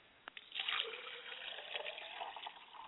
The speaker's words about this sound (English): I pour libation for my mother's spirit, and I say, Ashe. Ashe.